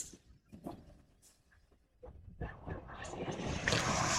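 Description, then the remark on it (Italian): Sea waves wash in as a broad, hissing rush, quiet and sparse at first, then swelling steadily louder into a dense, bright surge by the end. “Oh, e allora, avete sentito il suono del mare che ci accompagna sempre, quasi sempre, come tappeto sonoro, perché è uno dei miei suoni preferiti.”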